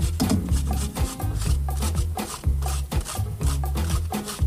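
Red cabbage being grated on a box grater for a salad in a studio, in quick, steady back-and-forth rasping strokes, a loud scratchy shredding sound with a low thud at each pass, repeating without pause and with no voices.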